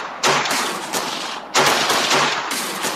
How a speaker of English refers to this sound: Everything was totally quiet. Everything had suddenly gotten dark. And gunfire erupts from the jail.